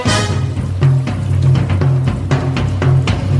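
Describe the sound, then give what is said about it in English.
Drums played by the Tikis in Walt Disney's Enchanted Tiki Room beat in a steady, rhythmic pattern of sharp hits, repeating about every quarter second over sustained low musical tones, loud and continuous with no talking. “Tinkies, play the drums.”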